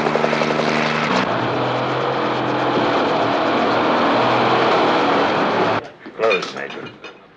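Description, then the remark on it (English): Loud, steady rotor noise of approaching helicopters fills the scene, a continuous thrumming roar that cuts off abruptly, followed by brief indistinct voices. “Uh-oh, choppers.”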